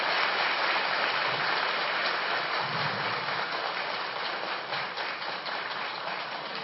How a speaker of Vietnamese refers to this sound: Xin đại chúng hãy dâng cao một tràng vỗ tay thật lớn để chào đón thầy.